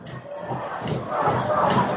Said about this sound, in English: I'm sure the fans really starting to get going. The student section making some noise. Gotta love that. Whoever you're cheering for, you love when the students get involved.